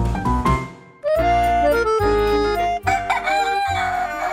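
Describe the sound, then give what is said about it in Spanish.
A rooster crows loudly, a long drawn-out cock-a-doodle-doo with strained, harmonic-rich calls, preceded by a brief burst of clucking and followed by another crow. “Hablando de gallos y sus cantos, les platico la historia del gallo Maurice de Francia.”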